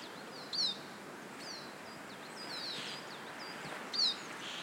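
Siskin flight calls: single high, ringing notes, two brighter ones standing out around the first and last seconds, with fainter calls scattered between over a soft, steady background hiss.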